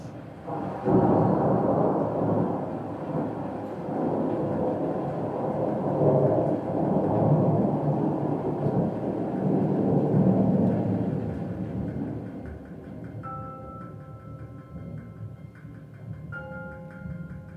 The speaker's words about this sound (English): I figured out a way to basically record rain from within a forest. And so there's subtleties to that, but like if you really listen to it, this rain sounds like it's under a porch, and then the next clip sounds like it's actually in the forest.